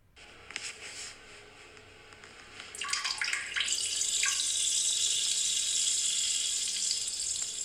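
A person urinating into a toilet, recorded as a voice recording on a phone: after a few seconds of quiet, a steady splashing stream of liquid starts and continues as a bright, even hiss to the end, with no talking.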